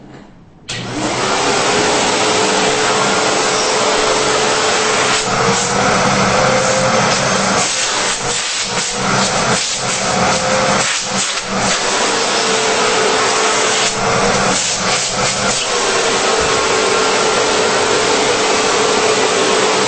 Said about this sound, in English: And like I say, it's not that loud, but it definitely is provides enough suction to clean. So anyway, here we go. Here is the Pro Team Super Coach 10 quart. Backpack vacuum.